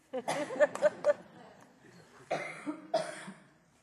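A fit of coughing up close: a quick run of four or five sharp coughs, a short pause, then two heavier, raspier coughs. No one speaks.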